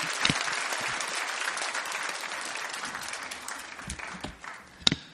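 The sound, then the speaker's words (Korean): A church audience claps steadily in a dense, sustained wash of applause, welcoming a guest pastor to preach at Bundang Woori Church. The applause thins toward the end, with a few louder individual claps standing out near the finish. “우리 귀한 목사님 보내주신 하나님께 감사의 박수 영광 올려드리며 목사님 맞이하도록 하겠습니다.”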